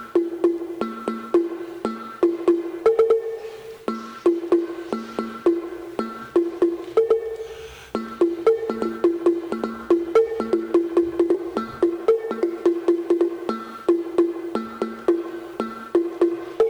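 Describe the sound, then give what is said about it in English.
A wooden tongue drum, also called a slit drum, played in quick, rhythmic patterns, its hollow, resonant tones alternating between a few distinct pitches, with a brief pause midway before the busy pattern resumes. “This is called a tongue drum, looks like tongues, or a slit drum, looks like slits.”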